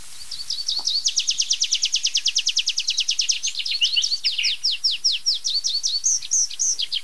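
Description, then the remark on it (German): A tree pipit sings a long, loud song during its display flight: rapid trilled phrases speed into a steady run of notes, then slow into drawn-out, slurred notes ending in an ornate flourish with zia-zia notes. “Da darf ich euch vorstellen, mein lieber Freund, der Baumpieper.”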